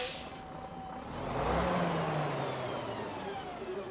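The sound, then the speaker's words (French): A heavy vehicle such as a bus pulls away, a brief hiss of air brakes at the start, then its engine revs up and drones steadily under broad road rumble. “Je sais pas pas jusqu'où tu peux aller avec le bus.”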